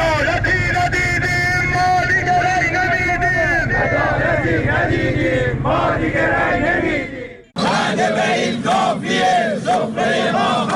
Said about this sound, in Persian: مردمی که مدت هاست در خیابان‌ها فریاد می‌زنند، رأی نمی‌دهند.